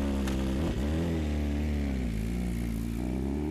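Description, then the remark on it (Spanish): A motorcycle engine revs up loud, its throaty rumble running steadily with a quick throttle blip early on and a gently wavering pitch afterward, no voices present. “Aún sabiendo los riesgos, igual desea montarse en una de sus 6 motos, al menos una vez a la semana, y desafiar al destino.”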